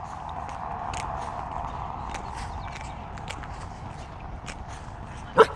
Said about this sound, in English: Easy dog. No. Be nice.